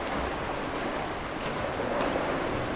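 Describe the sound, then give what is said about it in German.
Steady, rushing water splashing as a breaststroke swimmer ploughs lap after lap through his home training pool, the Nordbad in Darmstadt, Germany, with a couple of sharper splashes amid the continuous churn. No voices are heard. “Der Brustschwimmer pflügt sich gerade Bahn für Bahn durchs Wasser in seinem Heimattrainingsbad im Darmstädter Nordbad.”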